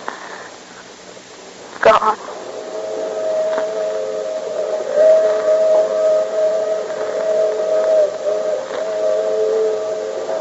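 A departing train's whistle sounds a long, steady, harmonic tone after a sharp clunk, holding for several seconds with gentle swells over a low rumbling background.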